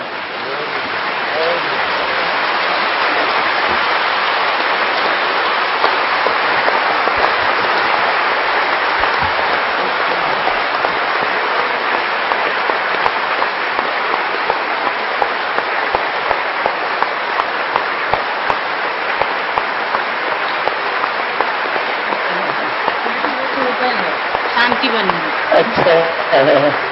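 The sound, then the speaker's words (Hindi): A crowd, standing in their places, claps steadily for a grandmother for nearly half a minute, a dense, even wash of applause that stays loud throughout, with a few sharper individual claps standing out near the end. “मैं सभी से रिक्वेस्ट करता हूँ अपने अपने स्थान पर खड़े होके जरा दादी के लिए ताली बजाई जाए।”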